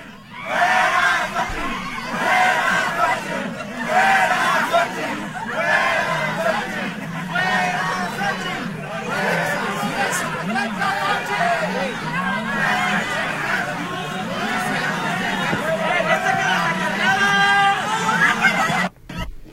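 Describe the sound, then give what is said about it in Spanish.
A crowd of Universidad de Guadalajara students at CUCEA shouts protest slogans such as "CUCEA no te quiere" and "fuera Xóchitl" in loud, overlapping chants, voices rising and falling in rhythmic bursts with steady babble underneath for the whole stretch. “cuando salen prácticamente del CUCEA, que les empiezan a gritar este tipo de consignas, se ve que les arrojan papeles y algunos objetos.”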